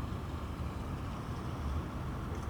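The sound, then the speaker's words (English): Steady, low rumble of a car moving through traffic, with constant road and engine noise at an even level throughout and no voices. “It's hard to focus while I'm driving.”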